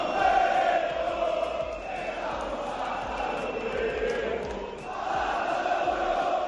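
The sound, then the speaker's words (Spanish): A large crowd of Valencia football fans roars and chants continuously at Mestalla stadium after the match Valencia lost to Las Palmas, a dense, steady wall of many voices that swells loudly at the start and again near the end, with no individual speech audible. “Ese era el ambiente inicialmente en Mestalla después de acabar el partido, en el que, como te digo, el Valencia perdía frente a Las Palmas.”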